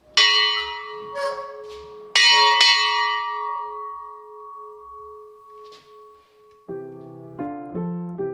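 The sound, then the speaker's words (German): A large bell dating from 1598, a museum collection piece, is struck twice, loud, each strike ringing out in a long, slowly fading hum, followed by a few shorter, lower bell-like tones at the end. “Und einer dieser Sammlungsstücke ist auch diese Glocke aus dem Jahr 1598 und die jedes Mal großes Entzücken hervorruft. Es ist laut.”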